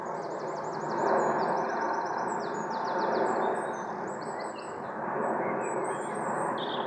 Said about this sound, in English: Just as a British Airways plane flies overhead, quite close to Manchester Airport.